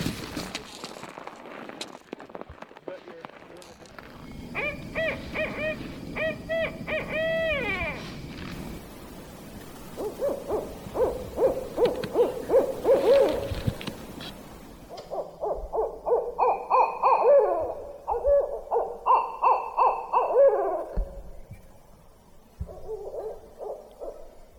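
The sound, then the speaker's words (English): Two barred owls call back and forth at night, responding to recorded calls played from an iPad, trading loud, raucous hoots and rising, cackling caterwauls in rhythmic bursts with brief pauses between, no voices present. “The intrepid owl hunters were able to hear two barred owls responding to the calls from the iPad and then calling to one another.”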